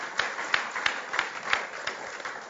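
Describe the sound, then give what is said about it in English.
An audience claps together for Jesus Christ in a steady rhythm, roughly three sharp beats per second rising out of a dense, noisy wash of many hands. No one speaks. “Can we just give a mighty hand clap to Jesus Christ?”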